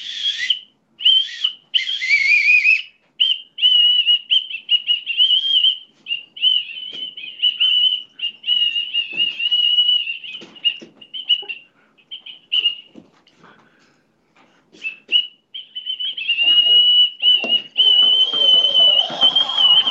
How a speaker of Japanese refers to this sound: ちょっと私実は笛が吹けるんです。 はいはい。 笛奏者やったんですね。 あ、そうなんですね。 ちょっと今から笛吹きます。